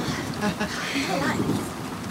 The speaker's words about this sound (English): I have a question. Oh, yes. Do you have extra umbrellas? I mean, if it rains a lot. No, we don't have any extra umbrellas. But don't worry, I'm sure the rain will stop soon.